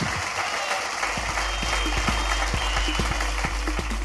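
An audience applauds steadily for guest Ed Gamble, author of the book Glutton, a dense wash of many hands clapping at once, with a few sharper individual claps popping out above the crowd noise throughout.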